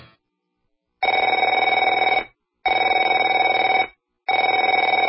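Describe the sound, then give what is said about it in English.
A telephone rings in three long, steady bursts, each lasting about a second with short silent gaps between, its bright, buzzing bell tone loud and alone with no voices. “Afraid to answer it?”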